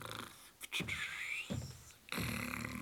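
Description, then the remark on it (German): A voice fakes snoring with a few exaggerated, wheezy breaths and raspy snorts, fairly loud, with no words spoken: Pumuckl pretends to be asleep as Meister Eder comes into the workshop. “Als der Meister Eder in die Werkstatt kam, schnarchte der Pumuckl, als würde er schlafen.”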